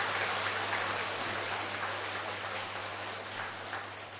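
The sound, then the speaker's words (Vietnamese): A crowd applauds steadily for several seconds, a dense, even wash of clapping that holds at a fairly constant loudness over a faint low hum, with no voices. “thì xin quý vị hãy dành sự vác tay, sự một tràng pháo tay để phát tâm làm công việc đó.”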